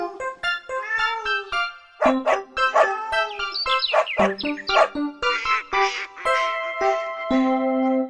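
Sharp dog barks alternate with quick, bright bird chirps, all fairly loud, set against sustained musical tones with no talking, as part of a children's song about an animal choir.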